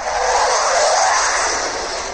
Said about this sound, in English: Hey, well, the sound of that jet airplane means that I'm no longer in Taiwan. I'm now in Singapore.